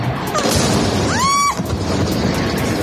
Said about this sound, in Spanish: Estos fueron los momentos de terror que vivieron los vecinos de Caracas ante esas explosiones, que no entendían por qué se estaban produciendo.